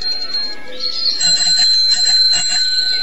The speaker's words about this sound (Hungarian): Mivel csörömpöltél ilyen rémségesen? Ez egy csengő. Egy közönséges bicikli csengő.